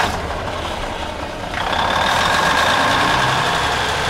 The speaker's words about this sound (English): To make sure the power stays on, ONI Systems has outside its facility here a massive diesel generator the size of 2 semi-truck engines ready to fire up at any time.